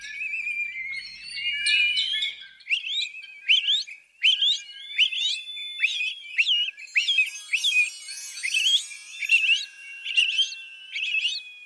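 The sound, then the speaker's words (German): A song thrush sings a clear, varied phrase sequence of sharp whistled notes and trills, repeated in quick bursts, loud with no talking. “Den Gesang der Singdrossel kann man sich auch mit einigen lautmalerischen Merksätzen einprägen.”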